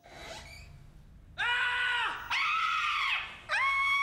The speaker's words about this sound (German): Zalando, schrei vor Glück.